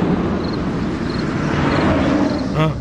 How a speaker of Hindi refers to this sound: ये रही गाड़ी, ये रही गाड़ी, ये वही सफेद गाड़ी है। ये देखो डस्टबिन के बगल में खड़ा हो गया।